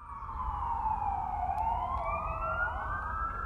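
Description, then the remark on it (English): An ambulance siren in rural western Kansas wails steadily and fairly loud, its pitch sliding slowly down and then back up over a low rumble of road noise, with no one talking. “In rural western Kansas, an ambulance ride to a larger hospital can take several hours.”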